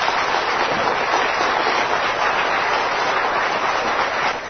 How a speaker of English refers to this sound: Give Mike a great big hand clap. Would you do that?